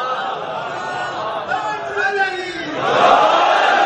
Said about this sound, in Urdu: دیکھیے میں آپ سے نعرے طلب نہیں کرتا, مگر یہ ضرور طلب کرتا ہوں کہ جب نعرہ لگاؤ تو نعرے کی طرح ہونا چاہیے.